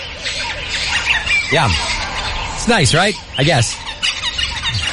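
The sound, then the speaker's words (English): A nature recording broadcast on Earth Day by San Francisco radio station KALW during 24 hours of nature sounds: birds give loud, harsh squawking calls with swooping, bending pitch, three main bursts over a steady hissy background, while a person talks briefly over it. “Yesterday was Earth Day, and there's a radio station in San Francisco that played a full day, 24 hours of nature sounds. Sounds like this.”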